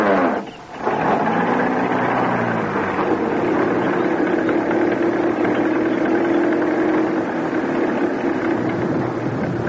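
old car engine running

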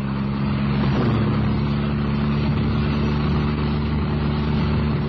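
car driving

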